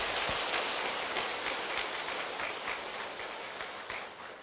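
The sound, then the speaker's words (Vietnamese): An audience at a Buddhist retreat applauds steadily after a senior monk's answer, a dense crackle of many hands clapping at once that holds a fairly even loudness throughout, with no voices over it. “Xin quý vị chúng ta cho một tràng pháo tay thật lớn đi ạ.”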